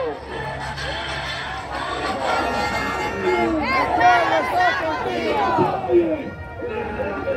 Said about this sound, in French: Voilà, l'avion est en face du public, fait son demi-tour, va se mettre face à la piste d'envol, et le public continue de scander, chanter, hurler, pleurer, tous les drapeaux au vent